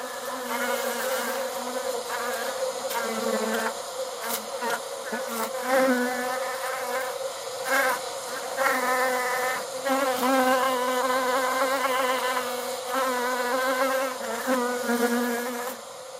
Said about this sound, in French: Félix Blum, cet essaim d'abeilles, vous l'avez en fait reconstitué, parce qu'il faut le dire. Chaque abeille qu'on entend, en fait, a été enregistrée via un studio assez étonnant d'enregistrement que vous avez conçu spécialement.